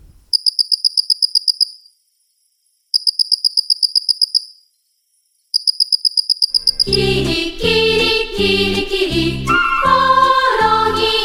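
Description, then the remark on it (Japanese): A Mitsukado cricket, one of the cricket species living in Utsunomiya, Japan, chirps in three separate bursts of rapid, buzzy pulses, each lasting about two seconds with short silences between, before music swells in and continues to the end. “次はミツカドコオロギです。”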